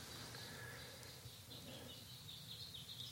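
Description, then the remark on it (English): Faint birdsong chirps and trills over a steady low outdoor hum, continuing softly throughout with no voices, heard during a breathing meditation. “The sounds of the birds, let them pass by.”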